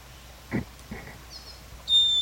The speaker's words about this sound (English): Wildbird in the background. Wildbird. This is a female. These are all wild birds.